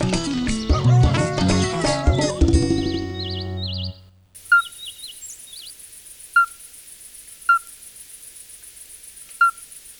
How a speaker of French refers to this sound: C'est l'alite accoucheur. C'est un petit amphibien d'environ 4 à 5 cm.